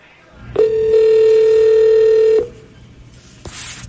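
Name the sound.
telephone call ringing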